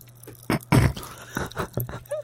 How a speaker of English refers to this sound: Here we go. Chocolate Pop Rocks.